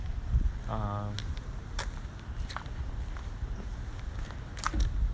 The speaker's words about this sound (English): Right now it's really... I hear footsteps on grass, on leaves, because I'm walking on a grassy terrain, and sometimes it becomes a cement.